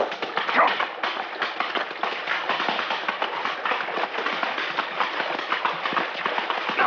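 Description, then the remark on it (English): Horse hooves clatter and knock as a horse crosses a rocky creek bed in a dense, uneven stream of hits, steady throughout, with no voices. “Yeah, here's where we cross. Now keep a tight rein. The creek bed has a rocky bottom, and your horse is liable to stumble unless you keep his head up.”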